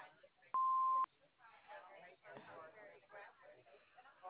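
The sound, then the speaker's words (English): A single loud, steady answering machine beep lasting about half a second, with muffled telephone-quality speech before it and a voice talking right after. “leave your name and phone number after the beep.”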